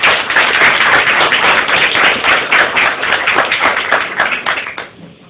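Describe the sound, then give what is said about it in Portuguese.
An audience applauds on request to welcome a speaker, a dense, steady burst of many hands clapping, loud and sustained for several seconds before tapering off toward the end, with no voices over it. “Só acredito se aplaudir.”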